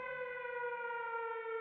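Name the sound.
wailing siren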